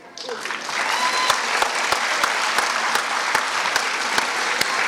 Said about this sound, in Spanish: Un aplauso fuerte para los tres ganadores de este concurso.